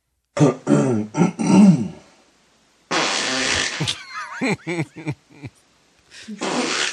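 A man's loud, drawn-out sputtering fart in his sleep, recorded by a sleep-recording app, rumbles for over a second, followed by bursts of rustling noise, a few short voiced sounds as his wife reacts, and another noisy burst at the end.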